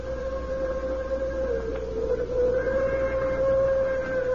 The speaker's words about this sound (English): Then, someplace far off, I heard a train whistle.